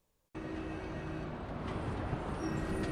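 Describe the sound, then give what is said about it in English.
Dense, steady roar of rush-hour street traffic in Beijing, China, fades in abruptly after a brief silence, with a low engine rumble and a continuous wash of cars passing by a paper stand. “Now is the rush hour. Quite a lot of cars just passing by a paper stand.”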